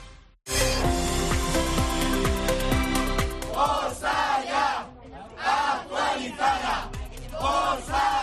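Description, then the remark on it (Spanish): A loud crowd of protesting Andalusian Health Service workers, gathered at Juan Ramón Jiménez University Hospital to demand renewal of about 300 temporary contracts, shouts together, first in a dense roar and then in a steady, rhythmic chant of repeated bursts, with no single voice standing out. “Pues con estos gritos, los profesionales del Servicio Andaluz de Salud se han movilizado hoy, se han concentrado en el Hospital Universitario Juan Ramón Jiménez para exigir la renovación del 100% de los cerca de 300 eventuales”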